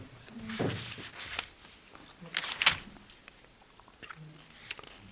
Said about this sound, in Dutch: ik wil even een bladzijde omslaan.